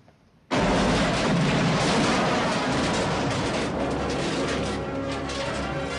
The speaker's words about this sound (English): Joe's car explodes across the car park. Pep and Joe pull their guns and aim around them, but there's nobody there. They stand before the burning wreck. Joe frowns. My hat was in that car.